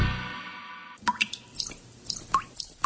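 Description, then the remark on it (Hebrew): Water drips from a tap in a quick, irregular series of plinking drops, following a second of steady background sound that cuts off. “אחרי 4 שנות בצורת, הקיץ הזה משתמשים במים בחוכמה ומתקנים נזילות בכל ברז מטפטף.”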